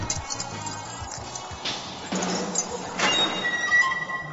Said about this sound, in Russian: Вдруг дверь загремела ржавыми замками.